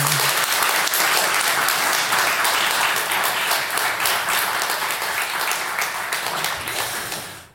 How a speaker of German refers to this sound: Ja, vielen Dank für den Applaus. Sind doch mehr Leute erschienen, als ich tatsächlich erwartet habe.